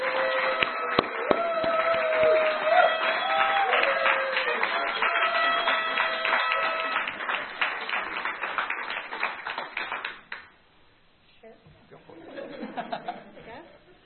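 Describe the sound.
A crowd applauds with dense, steady clapping for about ten seconds. A few voices rise over it before the applause fades into quieter murmuring.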